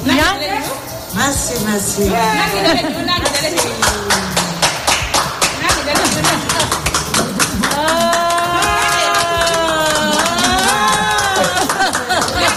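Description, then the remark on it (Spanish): People applaud in a steady patter of clapping after cataract operations restore their sight, while several excited voices talk and call out over it, the cheering swelling in the second half. “No me extraña que aplaudan, ¿eh?”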